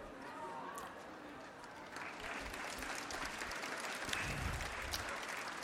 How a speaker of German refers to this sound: Und das sind die großen Momente, wenn man 3 von diesen Viecherversen gelesen hat und die Leute merken, dass man auch da klatschen darf.